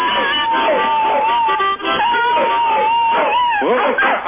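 A dog howls in long, wavering cries over steady, droning harmonica notes, both loud, running continuously for several seconds.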